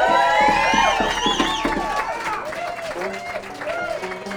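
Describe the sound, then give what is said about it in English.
An audience at a live music show claps steadily for a few seconds for the banjo player, a dense patter of hand claps. A voice rises over the applause at first, and quieter voices continue as it tapers off. “How about a round of applause for our banjo player”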